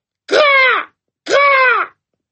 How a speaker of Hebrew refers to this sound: בא העורב ליונים, אכל ושתה איתן, היה שמח והתחיל לקרוא בקול רם.